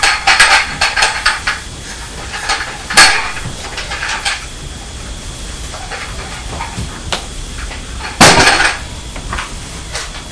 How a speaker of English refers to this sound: Oh, you decided to hit me on the head with the tray, have you? That's very nice of you.